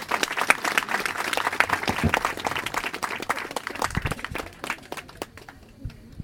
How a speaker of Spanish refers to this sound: Calurosos aplausos, por favor, para ella y él.